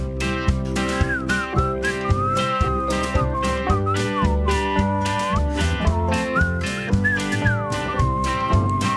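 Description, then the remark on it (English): Someone whistles a gliding, wandering tune over a steady backing track with a thumping beat and sustained bass tones. The whistle sits fairly clear above the music, with no talking. “A whistle to myself, will you make your mind up?”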